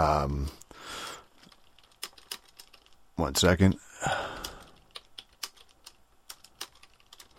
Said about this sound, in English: I'm just typing away here. Just a little business going on here. A little business transaction.